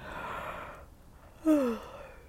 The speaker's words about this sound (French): Oui, parce que dès que le bâillement s'installe, le bâillement, il y a comme une envie de dormir qui s'installe, n'est-ce pas?